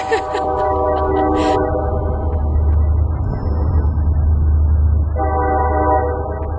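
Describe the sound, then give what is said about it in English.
A train rumbles past, recorded outside on a phone held up in the air, with a heavy, steady low-pitched roar, while a loud horn blasts in sustained harmonic tones at the start and again near the end. “I would never have my phone near me when the train was going by”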